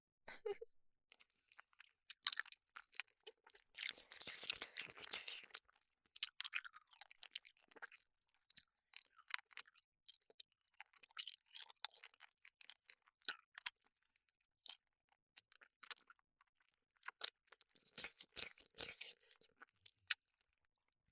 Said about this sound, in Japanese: ダメですよ先生。私が最後まで舐めてるところしっかりと聞いていただかなくては。